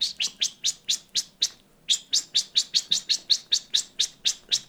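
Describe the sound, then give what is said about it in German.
A person imitates a bird's shrill ticking alarm call, the kind given mostly when the bird has young: a rapid, steady series of sharp, high clicks, about four per second, with one brief pause partway through, loud. “und wenn sie dann richtig anfängt zu tixen, also das meistens, wenn sie Junge hat, dann so. Also ganz, ganz schrill, das kann ich gar nicht so schrill.”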